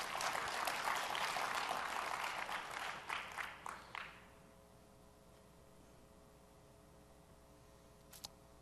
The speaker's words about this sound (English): So I wanted to thank the product team for getting that in last week. So I want to give them a quick round of applause.